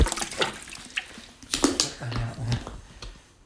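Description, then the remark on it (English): Cold water, brought in a bag, being sprinkled just inside, heard as a series of irregular soft splashes and patters, some sharper than others, with a couple of faint low murmurs in between. “Sprinkling it just inside.”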